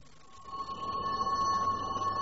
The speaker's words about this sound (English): There's your train.